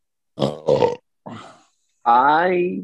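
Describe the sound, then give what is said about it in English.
A loud burp: two short guttural bursts and a breathy rasp, then a long drawn-out belch that slowly drops in pitch. No talking alongside it. “Thanks for the burp, by the way, dickbag.”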